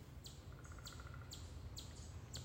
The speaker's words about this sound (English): Good one. I pressed record and then the woodpecker came in right on cue.